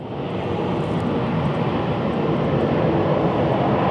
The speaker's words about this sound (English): Salmon 30 Salmon 2, a 91,000-pound plane painted with a 129-foot king salmon design, flew from Seattle through Southeast.